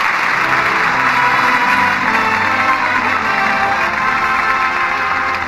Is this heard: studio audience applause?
yes